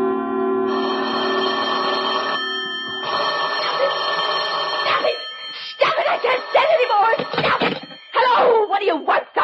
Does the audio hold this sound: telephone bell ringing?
yes